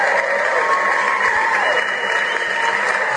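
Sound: applause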